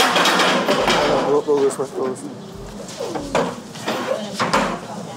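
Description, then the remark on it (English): Chairs scrape and knock across a hard floor in a series of short, uneven bumps and drags as participants bring their chairs into place at a cross-examination training session, with indistinct voices murmuring. “Bring your chairs, leave your notes, leave your pens, just yourselves, you can bring water.”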